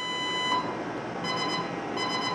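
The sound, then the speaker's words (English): A collision alarm aboard a gray US Navy minesweeper, tested during a crew drill, blares in a steady, harsh electronic tone rich in buzzy harmonics. It sounds throughout at a constant loud level, with a faint pulsing warble in its upper overtones. “That's collision alarm.”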